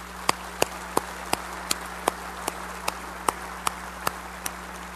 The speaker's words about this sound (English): please give him a round of applause, he and his family.